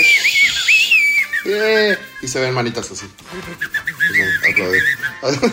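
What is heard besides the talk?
human whistling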